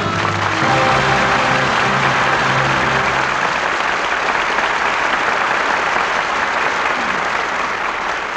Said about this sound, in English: Your applause gives a proper salute to three fine performances.